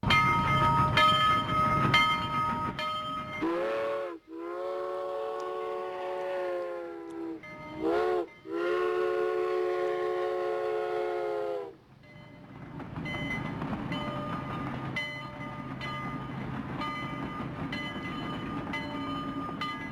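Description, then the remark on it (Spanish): A steam train rumbles along, then its whistle lets out a long, loud blast, pauses briefly, and sounds again before the rolling clatter of the train carries on. No one speaks. “Hoy vamos a hablar de la historia, vamos a contar la historia de un tren, pero no un tren cualquiera.”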